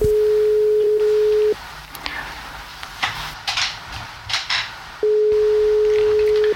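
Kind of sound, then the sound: signal or alarm, telephone ringing tone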